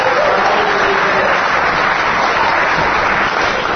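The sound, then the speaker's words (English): Steady, dense applause from an audience thanking a panel fills the whole stretch, a continuous wash of many hands clapping at once, fairly loud, with no talking over it. “Round of applause for Adala New York Scientific School Trustees”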